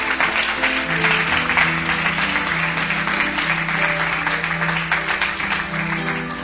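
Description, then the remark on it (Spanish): A church audience claps for the Lord, steadily and loudly for several seconds, a dense crackle of many hands, with sustained low tones humming underneath throughout. “Dele palmas al Señor.”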